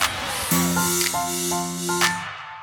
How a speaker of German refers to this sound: Also wie man es vielleicht gerade hört, ist ordentlich Wind hier oben auf dem Berg. Man könnte natürlich auch dann das nutzen, um vielleicht ein Windrad draufzustellen.